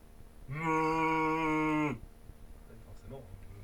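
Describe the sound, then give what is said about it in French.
A single long, loud cow moo, steady, lasting about a second and a half before cutting off, from cows grazing just in front of a mountain refuge hut, followed by quiet outdoor background with faint stirrings. “Donc les vaches n'ont pas bougé. Les vaches broutent juste devant le refuge.”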